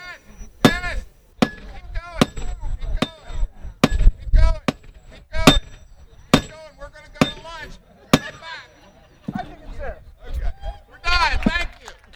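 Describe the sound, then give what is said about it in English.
A steady series of sharp metallic hammer blows, roughly one strike every second, rings out as a shiny spike is driven into a railroad tie near the end of the tracks during the train day celebration in Lewis, with people chatting in the background. “to take their turn hammering a shiny spike into the railroad tie near the end of the tracks, something that has become a tradition during Lewis's train day.”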